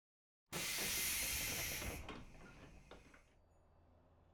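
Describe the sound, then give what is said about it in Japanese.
A sudden loud pneumatic hiss of a train door closing, bursting on strongly, then tapering off over a couple of seconds with faint clunks and a low rumbling background. “お礼したいので、ちょっと乗ってください。この電車乗りたかったんですよね。”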